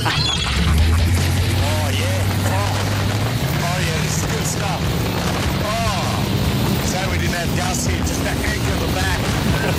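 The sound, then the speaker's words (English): A jet boat roars across water that is not too choppy, its engine droning steadily and climbing in pitch, with rushing wind and spray noise throughout and people shouting and whooping over the din. “What a big thank you to all the boys here at Oz Jet Boating.”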